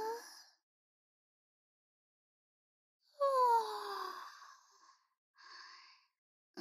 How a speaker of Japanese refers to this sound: すみません。寝不足でついあくびが。